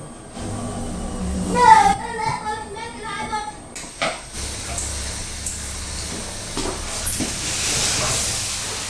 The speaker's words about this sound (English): A lot of noise because the washing machine's on in there, but I had to go ahead and do the washing